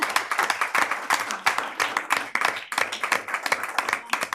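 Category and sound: crowd, applause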